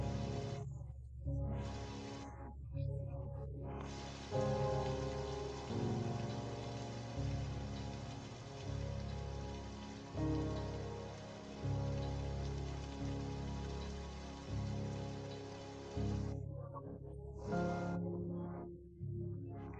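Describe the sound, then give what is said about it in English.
Steady, continuous rain hisses throughout, mixed with a soft, sustained musical drone underneath; no voices, just an even wash of falling water that briefly thins in places. “When you have taken each and every one of the rocks out of that backpack, you suddenly notice that the rain begins to stop and that little by little it disappears.”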